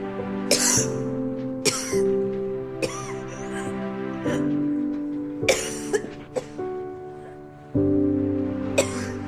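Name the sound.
woman coughing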